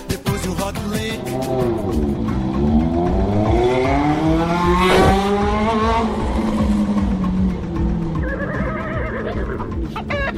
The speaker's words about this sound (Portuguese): Também soube que Divino recebeu ordens do prefeito Raposa e invadiu a chácara de Gilmar com sua motocicleta em alta velocidade.